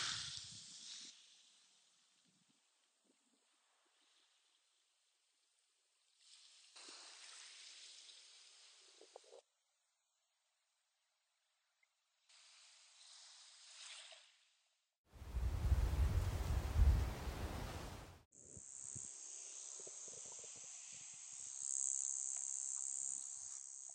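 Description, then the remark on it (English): Seaside ambience on an island on the Great Barrier Reef, by the ocean: insects buzz in high, steady bursts that start and stop, and a loud rushing swell surges through briefly in the middle, like a wave breaking. No one speaks. “I'm sat here right now in a hammock, right by the ocean, recording this episode.”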